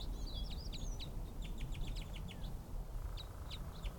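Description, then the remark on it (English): Quick, high-pitched chirps from a bird right above the recordist repeat in clusters over a steady low rumble of background noise, the short notes coming in rapid bursts with brief pauses between them. “Some other bird right above me.”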